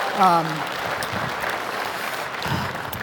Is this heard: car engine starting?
no